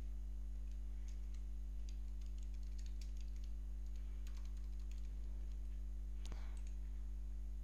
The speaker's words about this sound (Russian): Я открываю WordPad, печатаю какой-то текст, сохраняю этот файл.